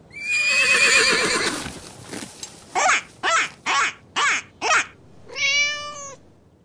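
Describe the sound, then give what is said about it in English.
A horse lets out a loud, quavering whinny that trails downward, followed by five short, evenly spaced bursts and one more drawn-out neigh. No one speaks. “Look! There's a horse! Let's feed the horse!”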